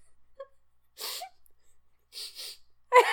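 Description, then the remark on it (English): Someone sniffs another person to check whether he smells like a fart, with short, breathy, hissing intakes: a single sniff, then two quick ones, then a louder, sharper sniff at the end, with no talking in between. “And he's like, he goes, did you just sniff me to see if I smell like a fart?”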